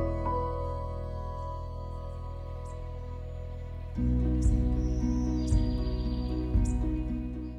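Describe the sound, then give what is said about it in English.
A hummingbird chirps outside the window with a few thin, high, quick chirps spaced about a second apart, heard over a steady low hum and soft musical tones, with no one talking. “I think there's a hummingbird outside the window.”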